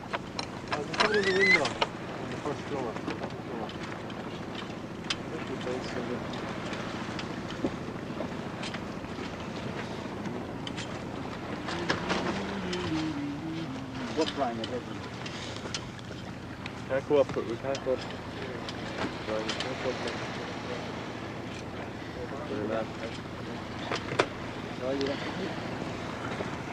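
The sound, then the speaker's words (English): Steady rush of a boat moving through water as it crosses the line, with another boat coming up on its stern; wind buffets the microphone and splashing bursts come throughout; muffled voices occasionally come through beneath the continuous noise. “This boat just coming up on our stern.”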